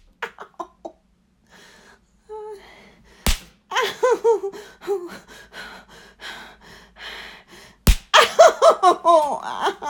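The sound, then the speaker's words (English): Two sharp, loud slaps of a hand on bare nipples, several seconds apart, amid gasps, moans and heavy breathing from a voice. “You slap my nipples.”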